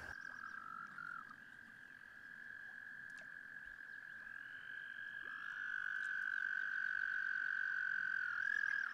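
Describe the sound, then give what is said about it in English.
Male toads trill at a pond in spring, where they come to the water to mate and lay eggs: a steady high-pitched continuous trilling chorus that overlaps and swells louder toward the end, with no one talking. “And down by the pond, where I am now, I'm beginning to hear the sounds of toads.”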